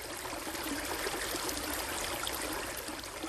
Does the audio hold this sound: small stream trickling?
yes